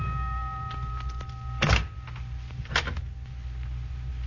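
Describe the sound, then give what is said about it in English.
A door is opened with two dull mechanical clunks about a second apart, moderately loud, over a steady low hum with no voices. “I remember how you looked at me, Dad, when I, your young minister, opened the door that day.”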